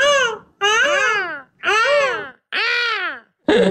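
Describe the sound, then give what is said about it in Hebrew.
A person's voice imitates a peacock call: four loud, wailing cries with rising-then-falling pitch, each under a second and separated by short pauses, then a fifth cry begins. “את יודעת לעשות חיקוי של קריאה של טווס?”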